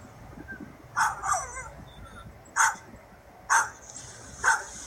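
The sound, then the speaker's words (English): A dog guarding a stick from another dog growls and snaps out about five short, sharp barks and yips at uneven intervals, with a low rumble and background noise between them and no talking. “Now, sometimes they do want to share sticks, but in this case, this dog does not.”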